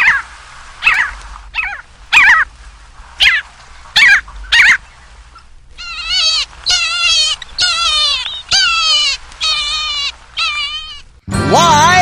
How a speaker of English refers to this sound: Parasitic Jaeger.